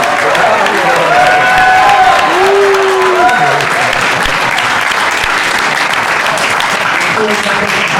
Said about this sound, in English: I'm just thinking it's very accessible for all of us, so let's also have a round of applause.